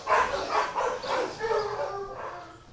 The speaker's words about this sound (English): So this is the kennel we're entering. We have space to hold about 40 dogs. At any given time, there are about 20 to 30 available for adoption.